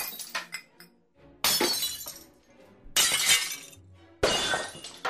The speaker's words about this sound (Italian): Dal salotto provenivano dei colpi attutiti e degli schianti, come di bicchieri infranti.